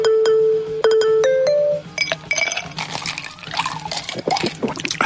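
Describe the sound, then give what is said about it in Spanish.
Ice cubes clink sharply against a glass several times, then a cold drink is poured in with a fizzing, splashing rush that fills the rest of the moment, clear with no voices. “Lo que tardas en beberte una bebida bien fresquita, con sus hielos, cuando estás en pleno verano y a 40 grados a la sombra”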